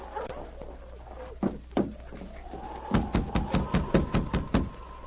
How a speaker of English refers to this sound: Sergeant Preston waited a moment, and then, getting no response to his knock, he tried again a little harder.